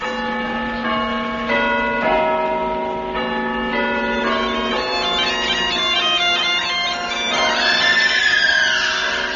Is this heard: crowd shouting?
no